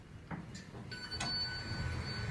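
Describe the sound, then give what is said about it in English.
A fairly fast Otis Series 7 Gen 2 passenger elevator arrives at the first floor with a soft electronic chime that rings steadily, followed by the muffled rumble of its doors sliding open. Quiet, with no talking. “Ooh, wow, it's fairly fast elevator. Smooth ride, I gotta say. This is Otis Series 7, Gen 2. First floor.”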